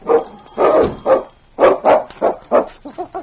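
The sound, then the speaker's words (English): A dog named King barks and yelps in a rapid string of about ten sharp, whiny bursts, loud, while clawing at a solid door in protest at being left behind. No voices around. “King clawed at the door and barked a protest at being left behind.”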